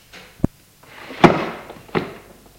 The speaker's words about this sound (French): Il ouvre le tiroir de sa commode et en prend une paire de gants en cuir noir. Elle referme le tiroir.